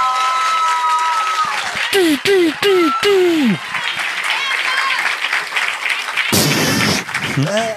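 An audience applauds steadily throughout, a dense wash of clapping, while a few descending whistle-like tones sweep over it early on and a louder noisy burst flares near the end.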